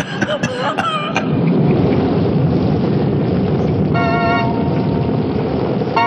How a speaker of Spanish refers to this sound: La tormenta continúa en todo su apogeo. Los relámpagos iluminan a intervalos las ventanas de las habitaciones ocupadas por Calimán y sus compañeros.